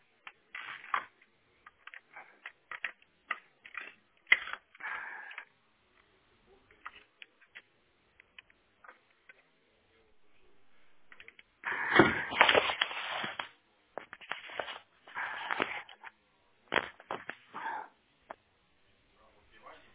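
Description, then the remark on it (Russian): Scattered clicks, taps and rustling as a network cable plug is pulled out of a router and clicked back in, with a denser burst of handling noise midway; muffled voices may be present. “Ну вот и у вас роутер, его попробуйте отключить и до щелчка обратно тут же включить.”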